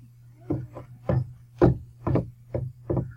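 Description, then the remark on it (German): A wooden door is worked open with a series of seven hollow wooden clunks at a steady pace over a low constant hum. “Los, mach die Tür auf und vergesst nicht, dass ich schieße, wenn ihr Dummheiten macht.”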